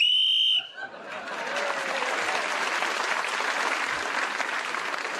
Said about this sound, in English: Clement Freud was speaking as the whistle went